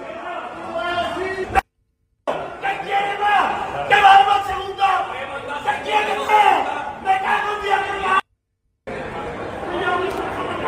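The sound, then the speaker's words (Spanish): Loud crowd of Sevilla football fans shouting angrily at the players on the team's arrival after a defeat in Pamplona, many overlapping voices yelling and jeering in a continuous roar, broken by two brief silent gaps. “Aficionados contra los jugadores, gritos contra el nido.”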